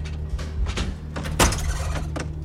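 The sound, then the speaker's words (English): A front door swings open with a few clunks and rattling knocks, one sharper thud partway through, over a steady low hum. “The front door swings open”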